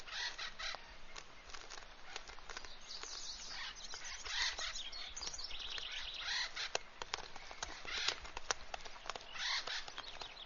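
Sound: acorn woodpecker calls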